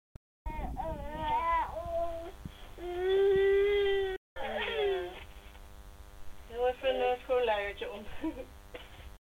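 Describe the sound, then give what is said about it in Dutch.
A girl aged one year and three months whimpers and fusses over a baby monitor, with several drawn-out, wavering cries and a brief break midway. The sound is fairly loud and slightly tinny, with no other voices. “Ondertussen hoor je mijn dochter door de babyfoon.”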